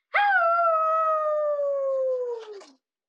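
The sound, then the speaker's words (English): A person imitates a werewolf howl to scare others: one loud sustained note that sags slightly in pitch for about two and a half seconds before dropping off at the end. “If no one can see me as anything but a big bad wolf that huffs and puffs and blows houses down when I roar! Howls? Right, howls.”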